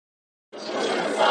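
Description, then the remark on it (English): After a brief silence, a loud, dense wash of crowd voices bursts in, a protest crowd of supporters in the London drizzle chanting together to demand freedom for Julian Assange on the final day of a hearing, sustained for the rest of the short moment. “Braving the London drizzle, crowds of supporters demand freedom for Julian Assange on the final day of a crucial hearing”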